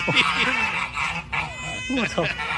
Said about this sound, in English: See if you appreciate this counterattack. Okay. As some people are being chased by these geese.